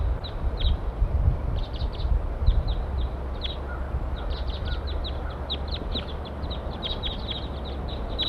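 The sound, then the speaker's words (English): A group of about eight wild birds calls repeatedly in short, high-pitched chirps and clucks, scattered and overlapping through the whole stretch over a steady low rumble of background noise, with no talking. “Eight birds all together now.”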